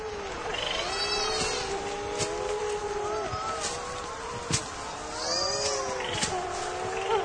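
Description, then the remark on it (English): At night, burrow-nesting seabirds give raucous, wailing calls that overlap and waver in pitch without pause, almost cat-like, broken by a few sharp clicks, as parents find each other in the dark by calling. “Parents find each other in the dark by their raucous calls.”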